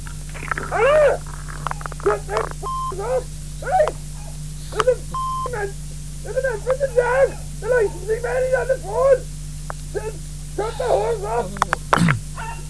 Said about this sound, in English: No. I can hear a dog in the background. You're telling me you've no dogs.